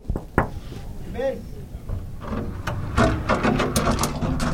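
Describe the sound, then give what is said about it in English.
A door creaks open with a brief, warbling groan whose pitch bends up and down, then a stretch of clattering, rustling movement noise follows. “Sorry about my noisy door.”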